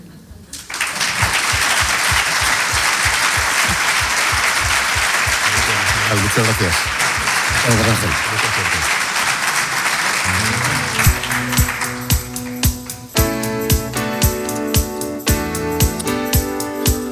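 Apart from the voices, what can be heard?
audience applauding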